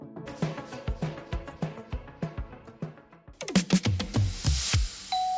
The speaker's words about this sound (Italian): È martedì, abbiamo ospiti, suonano al nostro campanello.